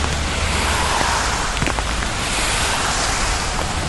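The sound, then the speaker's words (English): Rain patters steadily on a rain cap, a dense, even hiss with occasional sharper taps standing out, continuous and fairly loud with no voices. “You probably hear the rain hitting my rain cap.”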